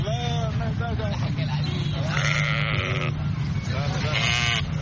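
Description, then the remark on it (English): Several sheep bleat repeatedly over a constant low rumble of passing traffic along a main road leading in and out of Khartoum, Sudan, where sheep are sold as families prepare for the Eid al-Adha feast, with indistinct voices mixed into the busy outdoor scene. “Hundreds of heads of sheep could be seen along main roads leading in and out of Sudan's capital, Khartoum, Thursday, as family prepared for the Eid of Al-Adha feast”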